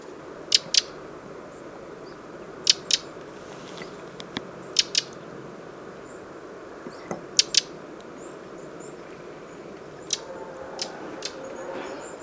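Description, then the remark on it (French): A flock of red crossbills husking larch cones in autumn, recorded with a single-microphone parabolic dish: scattered sharp ticks and crackles, often in pairs, repeat irregularly over a steady low outdoor hiss, with no voices. “Une bande de baies croisées des sapins en train d'éplucher des cônes de mélèzes.”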